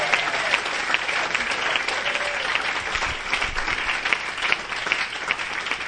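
Sustained applause from a sizable audience thanking the homework graders, a dense steady wash of many hands clapping at once, loud and continuous throughout with no pause.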